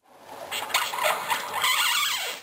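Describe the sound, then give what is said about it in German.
Styrofoam (Styropor, also called Airpop) packaging squeaks and creaks as it is cut or bent by hand, a continuous high-pitched scraping and squealing with rapid uneven rubbing bursts, moderately loud, with no voices. “Man kann das Material schon am Ton erkennen, wenn man es schneidet oder mit den Händen biegt.”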